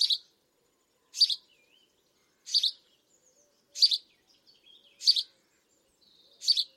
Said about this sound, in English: Let's listen to the enthusiastic chirps of the house sparrow.